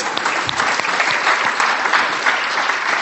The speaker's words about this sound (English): You can go and take a seat. Give him a round of applause if you would,